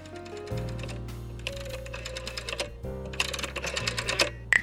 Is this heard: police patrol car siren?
no